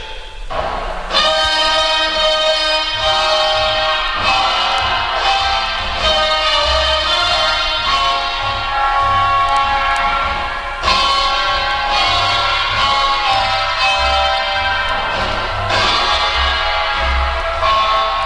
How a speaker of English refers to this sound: By using echo chambers, the engineer can add any amount of echo, even too much, making our orchestra sound as if it's playing in Grand Central Station.